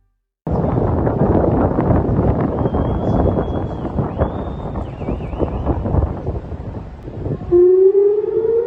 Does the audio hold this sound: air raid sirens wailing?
yes